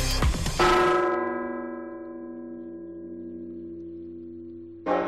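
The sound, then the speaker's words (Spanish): The oldest bells of Burgos Cathedral, rung by hand in tribute to Pope Francis hours after his death, ring out with a loud clanging strike, followed by a long, rich humming decay that fades slowly before another strike hits near the end. “Este era el sonido, solo unas horas después de la muerte del Papa Francisco, de las campanas más antiguas de la Catedral de Burgos que repicaban a mano en homenaje al pontífice.”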